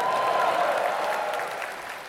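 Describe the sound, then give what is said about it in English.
A large crowd at the Royal Albert Hall applauds and cheers in a dense, steady roar of clapping, with a thin whistle-like tone early on; the noise holds loud throughout and eases slightly toward the end. “Make a cheer for that, folks.”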